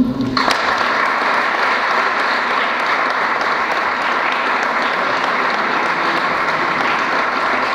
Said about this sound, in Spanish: Conocen a quienes son sus ejemplos provinciales, ¿no? Tenemos a Sol Bertotto, ¿sí? ¿Aplaudimos?